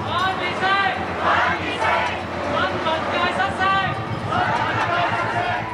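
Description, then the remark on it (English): A crowd of protesters in Hong Kong, objecting to curbs on press freedom, murmurs and chatters, many overlapping voices forming a steady, fairly loud hubbub that carries on without pause throughout. “And for this crowd, the situation is unacceptable.”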